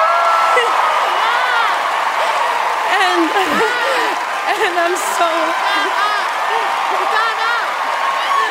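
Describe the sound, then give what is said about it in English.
A large crowd at an award ceremony cheers loudly and continuously, with whoops, shouts and clapping blending into a dense, steady roar that fills the whole stretch. “So much celebration, so much cheering.”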